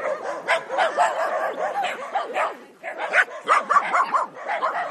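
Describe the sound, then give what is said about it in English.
Several dogs bark and yip over one another in a dense, continuous chorus, loud, with overlapping high-pitched barks and occasional whines, as the pack guarding its space races after another dog passing by. “Yeah, I noticed that before, whenever another dog comes past, the whole bunch of them get up. They do. They go racing after her. Lots of noise.”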